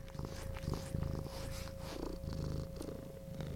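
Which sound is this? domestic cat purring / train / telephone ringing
domestic cat purring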